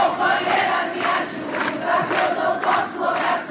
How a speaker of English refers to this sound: A human chain of almost 100 women parted the crowds as Marielle Franco's coffin was carried up the steps of Rio City Hall. The women chanted a song about supporting each other.